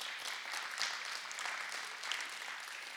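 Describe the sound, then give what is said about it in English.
A church audience clapping together for the Lord in steady, dense applause, loud and sustained throughout with no voices standing out. “Clap for the Lord.”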